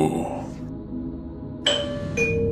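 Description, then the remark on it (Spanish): A two-note house doorbell chime rings out clearly, one bright tone followed half a second later by a second, over a low steady background murmur, after an earlier ring fades away. “El 23 de diciembre de 2016, como a las 11 de la noche, tocaron el timbre de la casa.”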